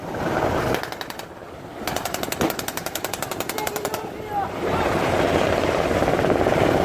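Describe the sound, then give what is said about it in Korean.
A Korea Coast Guard helicopter's rotor chops in a fast, steady pulse for a few seconds, loud, then fades into a broad rushing roar of wind and engine noise, during a joint counter-terrorism drill around a seized ship off Haeundae, Busan. “얼마 후 필압된 선박 주변으로 한국 해경의 헬리콥터와 방탄 보트가 모여들자 저격수의 사격을 받은 테러범들이 하나씩 쓰러지기 시작했습니다.”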